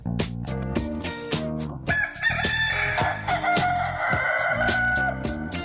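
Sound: rooster crowing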